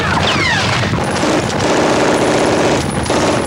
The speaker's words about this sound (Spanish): Desde lo alto del búnker, los alemanes descargan sus ametralladoras sobre la masa de hombres que cubre la playa sin protección.